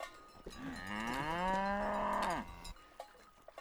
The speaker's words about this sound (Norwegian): Her kommer bjellekua, nå holder du deg bak.